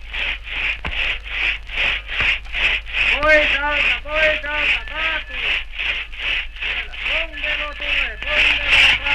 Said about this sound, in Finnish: Hirveet kalkkavat, sahat soivat, kaatuvat puut ryskyvät ja miesten huudot kajahtuvat. Taas sahataan tuossa puuta ihan meidän vieressämme.